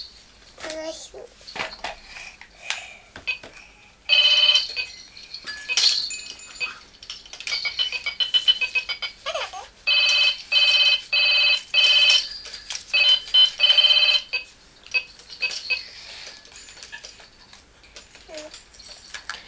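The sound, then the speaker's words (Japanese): A mobile phone rings with bright electronic tones in repeated, evenly spaced bursts, loud, while a child's voice chatters briefly between the rings. “携帯電話いい？ 携帯電話いいよ。”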